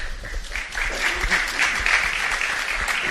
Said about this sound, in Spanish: Ha habido aplausos